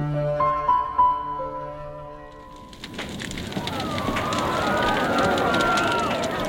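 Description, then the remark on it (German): A brief tonal musical phrase gives way to a loud, dense roar of a blazing city fire in London on 2 September 1660, with frantic voices of panicked people woken from sleep and hurried running footsteps churning underneath, chaotic. “Menschen in Panik, aus dem Schlaf gerissen und sich inmitten einer Katastrophe wiederfindend, die ihre Häuser, ihre Stadt in einen einzigen Aschehaufen verwandeln wird.”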